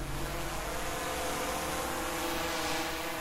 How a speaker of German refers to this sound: Draußen vor dem Zaun reizt der Pavillon einen Drohnenpiloten zu riskanten Flugmanövern. Das elektronische Auge soll wohl einen Blick ins Innere des verlassenen Rohbaus erhaschen.